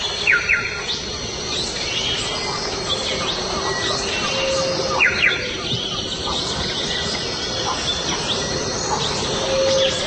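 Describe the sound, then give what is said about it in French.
Amazon rainforest ambience: a steady wash of insect drone and rustling noise, with scattered bright bird chirps and whistles rising and falling throughout, and a troop of monkeys waking far away, no voices. “C'est vraiment la forêt tropicale, l'Amazonie dans toute sa pureté.”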